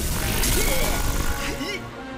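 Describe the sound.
A fire arrow spell slams home with a loud, sustained crashing roar of dense noise lasting about two seconds, with voice-like cries mixed in before it fades slightly at the end.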